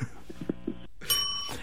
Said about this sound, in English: Oh, I got a bell. Wow.